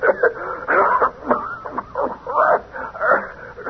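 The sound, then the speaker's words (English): A rapid series of harsh, hacking coughs from a man, fairly loud, coming in uneven bursts throughout with short gaps between them and no other voices. “That's the bad cough he's got.”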